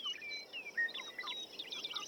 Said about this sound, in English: Isn't that great? That birdsong, more than any other sonic element of nature, appears in our classical music, appears through the ages, that birdsong is music to our ears.